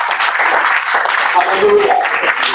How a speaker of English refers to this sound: Give Jesus a big clap of hallelujah.